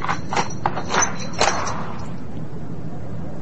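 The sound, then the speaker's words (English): A handful of sharp metallic clicks and clunks in the first second and a half, like a key turning in a lock and a latch releasing, as a door is unlocked at dusk, followed by a quiet, smooth opening on well-oiled hinges with no creak, the door left ajar. “Unlocking the door at dusk. And leaving it ajar.”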